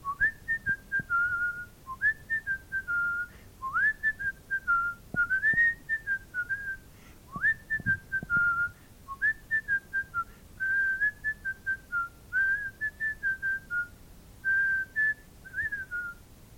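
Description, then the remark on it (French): A boy whistles a lilting tune for about sixteen seconds as he sets off from home, clear, in short melodic phrases with brief pauses between them and no talking. “Il embrasse son père et sa mère et il part en sifflant.”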